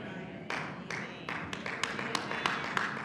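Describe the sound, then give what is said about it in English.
Sharp hand claps ring out one after another, about nine in three seconds at a loose, uneven pace, over a steady low murmur of crowd noise. “Three, hand claps.”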